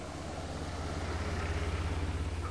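A truck drives past on a road, its low engine drone steady and broad with a faint swell, filling the short moment without any voices.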